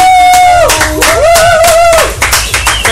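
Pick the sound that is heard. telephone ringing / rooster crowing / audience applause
audience applause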